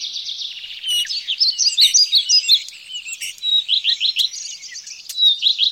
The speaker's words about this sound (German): Wenn Sie mögen, machen Sie eine kleine Rast auf dem Picknickplatz unter der großen Kastanie und lauschen Sie mal, wie viele verschiedene Vögel Sie hier in den Streuobstwiesen hören, vor allem im Frühling und Sommer.